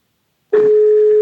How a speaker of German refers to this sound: Okay, wir starten jetzt mal einen Anruf. Alexa, rufe BBSB. Es läutet hin.